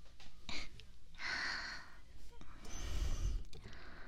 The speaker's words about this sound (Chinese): 竟然听到你的呼吸声，怎么办？